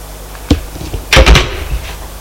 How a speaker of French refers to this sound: Frappe à la porte.